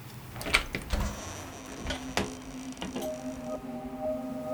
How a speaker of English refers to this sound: The door just unlocked.